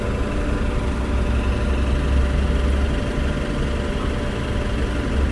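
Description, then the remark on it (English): A bus engine, just turned on by its driver after a short break, idles with a steady, deep rumble that holds evenly from start to finish, fairly loud, with no voices or other sounds breaking through. “seems like that driver had taken a small break. He just turned on the bus.”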